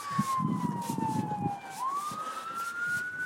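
An emergency siren wails in a long, slow sweep, falling then rising again, clear over a low rumble of city traffic and a few thuds, on a city street on a night of fresh snow.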